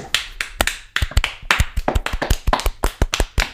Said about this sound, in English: We have our winner, boys. Ooh. Ooh. Round of applause. Ooh.